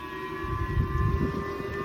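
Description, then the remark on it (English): An air raid siren sounds loudly and continuously in South Korea, its tone holding steady over a low, rumbling background with no voices. “Sirens going off in South Korea.”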